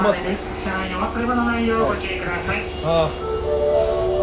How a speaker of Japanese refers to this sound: 今玉出駅にいまして、玉出駅から移動してる最中に撮っております。電車の音ばっかりで聞こえない可能性は高いですけど、喋、ってます。